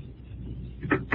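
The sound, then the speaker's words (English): A low rumble gives way to a solid thud of a door shutting, followed a moment later by a sharp latch or lock click. “Oh, I hear you close and lock the door.”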